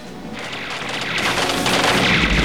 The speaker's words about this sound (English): presses a switch, releasing rapid gunfire and two more torpedoes.